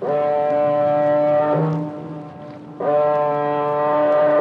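A deep, droning foghorn blasts twice from a car ferry looming out of the fog in the English Channel, each long, steady low tone rich in harmonics, separated by a brief dip, over faint wind and water noise.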